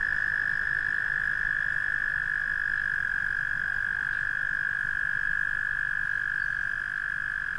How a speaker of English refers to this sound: Oh, there's a frog.